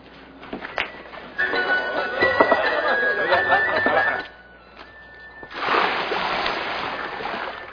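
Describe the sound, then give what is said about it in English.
Water is poured into large stone water jars, six jars each holding 20 to 30 gallons, in two splashy bursts: a longer pour of about three seconds, a brief lull, then a second steady pour running to the end. “"Fill these jars with water."”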